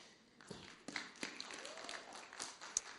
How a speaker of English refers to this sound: Amen. Come on. Amen. Hallelujah. Clap hands for this beautiful lady here.